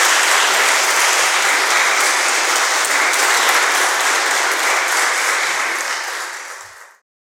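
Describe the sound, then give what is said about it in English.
Loud, sustained applause from an audience for a string quartet performance with erhu, a dense steady wash of many hands clapping for about six seconds before fading out quickly at the end. “Another round of applause for a quartet in grace.”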